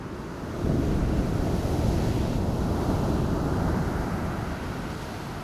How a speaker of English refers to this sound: Hear the waves. There's no need to narrate or judge or change. Let's just be here and listen for a few more minutes.